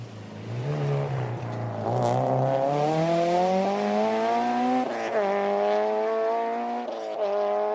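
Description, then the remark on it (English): A rally car on a rally stage roars past a corner at speed, way down the field, its pitch climbing steadily as it revs hard through the gears, loud and continuous with a gritty, buzzing tone and no voices. “Finally, way down the field, they pass us by.”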